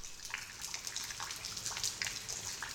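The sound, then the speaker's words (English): Water gushes through a hole in a wall, rushing and splashing steadily, a continuous hissing flow with bubbling, sputtering bursts throughout, moderately loud, with no voices. “Then, suddenly, the water came through the hole.”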